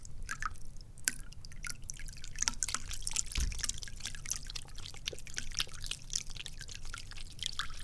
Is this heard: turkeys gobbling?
no